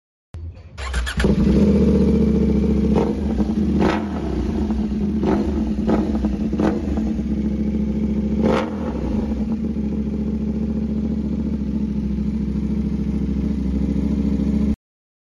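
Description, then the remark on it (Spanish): A KTM Duke 790 or 890 motorcycle engine starts up loud, settling into a steady rumbling idle punctuated by several quick throttle blips and sharp revs, with no talking. “Tienes una motocicleta KTM Duke 790 o 890, no sabes cómo equiparla, aquí te podemos ayudar.”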